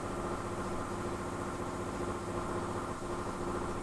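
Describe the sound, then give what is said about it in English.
A jackhammer breaking pavement: a steady, rapid mechanical pounding with a low, engine-like rumble, continuous and loud for the whole stretch with no voices. “Shaking him up, my poor jackhammer guys. I'm a jackhammer, baby.”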